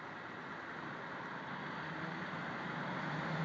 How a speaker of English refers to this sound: Probably just traffic, I suspect. Oh well. More squeaking later. We might get a distant lonesome freight train as well. But it suddenly got really busy.